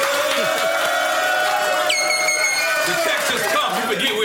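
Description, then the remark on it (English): A crowd cheers and shouts in a steady, loud roar, with voices blending together and a high whistle cutting through partway in. “I mean, let's make some noise, you know, just, for him being rich.”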